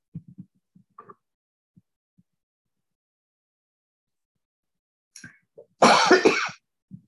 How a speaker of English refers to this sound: Sorry about this. There's something about me getting on Zoom meetings. I don't cough in between.